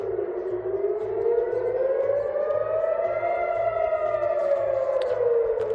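An air raid siren in Jerusalem and Tel Aviv, Israel, sounding because of rockets launched from the Gaza Strip, wails continuously, its pitch slowly rising and falling in a long sweep, loud and steady over a faint regular low pulsing in the background. No one speaks.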